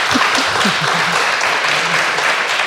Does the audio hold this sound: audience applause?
yes